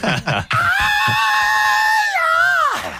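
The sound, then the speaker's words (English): A loud, sustained high-pitched rock-style scream held for over two seconds, wavering slightly before bending downward and cutting off, preceded by a couple of brief vocal bursts. “That was …. It screaming in remotely.”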